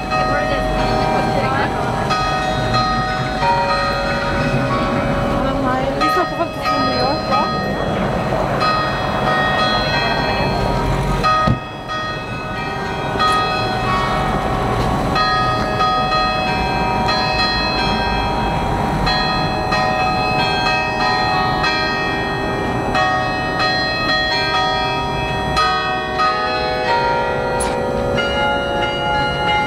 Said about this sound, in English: Obviously, that's just a bunch of bells ringing